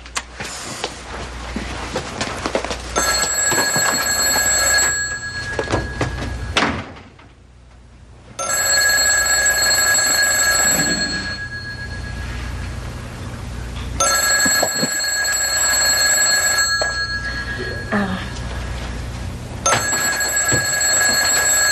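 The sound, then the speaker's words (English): A telephone bell rings loudly in repeated long bursts, about four rings separated by short pauses, with a steady low rumble in the background and no one speaking. “The phone's ringing.”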